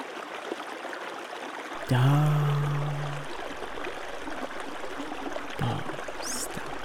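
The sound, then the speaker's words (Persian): A river flows steadily with a continuous rushing, bubbling wash of water; a brief low hum rises near the start and fades, and no one speaks. “تمام آگاهیت رو به صدای رودخانه متمرکز کن.”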